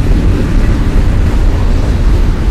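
A train engine pulls hard as it gets started on a single track, giving a loud, steady, deep rumble that stays constant throughout, with a throaty low growl, no bell ringing and no voices.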